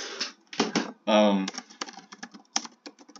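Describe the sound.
Rapid, irregular clicking of fingers typing on a computer keyboard, fairly loud, briefly overlapped by a short burst of voice near the middle.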